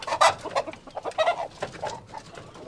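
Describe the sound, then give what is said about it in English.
A rare black rooster clucks in a quick series of short, throaty calls, moderately loud, with brief pauses between bursts and no talking, as a young farmer lifts it out of a bamboo coop at a backyard farm. “The young farmer who raises them, Daus, has agreed to show me his favorite rooster.”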